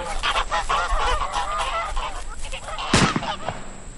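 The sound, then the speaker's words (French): A flock of released wild geese honking loudly and continuously, many overlapping calls, with a sharp bang near the end: a gunshot that brings down one of the geese. “C'est pourquoi je vous propose aujourd'hui, en lieu et place du traditionnel quiz cinéma, un lâcher d'oie sauvage.”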